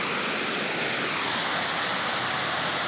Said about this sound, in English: There's a big one, huh? Yeah. That is a big one. Oh, I love that. Big waterfall. Yeah, that's nice. Look at that.